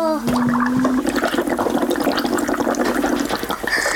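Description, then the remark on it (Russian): Continuous loud bubbling and gurgling as someone blows air through a straw into a drink, with a steady low hum underneath for most of the four seconds and no voices. “Попробуй побулькать.”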